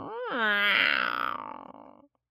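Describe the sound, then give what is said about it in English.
A person growls in imitation of a tiger: one sustained, throaty snarl about two seconds long that swells quickly, dips in pitch, and trails off into a rough, breathy rasp. “And all of a sudden, he heard a low growl.”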